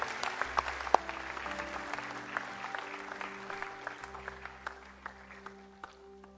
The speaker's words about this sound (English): And as these folks are coming, can we give them a big, big hand clap? Let them know that we love them, we support them.